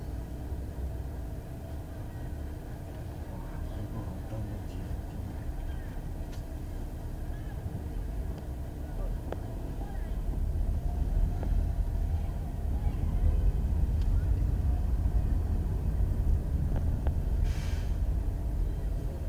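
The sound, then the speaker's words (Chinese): A steady low rumble of idling car engines in a traffic jam on a narrow road at after-work rush hour, growing somewhat louder about halfway through, with no clear voices. “这里比天鹅还堵车。”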